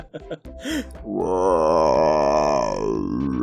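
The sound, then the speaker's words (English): A person imitates a frog's croak with a few short throaty grunts, then a long, loud, wavering low groan held for a couple of seconds. “I moonlight as a frog impersonator, so...”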